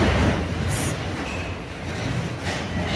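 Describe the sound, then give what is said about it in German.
Loud, steady noise from a construction site directly beside the IHK in Frankfurt: a dense mechanical rumble that never lets up, with a couple of brief, hissing high-pitched bursts on top. No one speaks. “Jetzt wird es hier sehr laut, weil hier direkt eine Baustelle daneben ist.”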